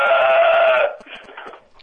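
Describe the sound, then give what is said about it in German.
A single strained crow from the rooster next door: one loud, steady, reedy cry that breaks off after under a second into a weaker, sputtering tail. It sounds almost like a bleat, with no talking. “Ganz der Hahn nebenan. Der ist ein Genfehler und was ist das dazu?”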